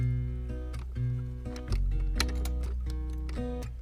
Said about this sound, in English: She sits on the edge of her bed and takes a box out of her nightstand. A key hangs on a chain around her neck. She takes it off and inserts it into a keyhole on the box.